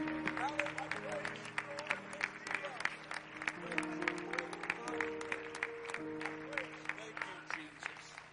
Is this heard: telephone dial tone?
no